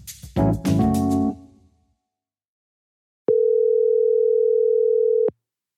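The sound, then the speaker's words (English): A single steady ringback tone, about two seconds long, sounds clearly on a phone line as an outgoing call rings, preceded by a brief burst of harmonic, musical sound and a short silence. “Let me get Stevie on the phone.”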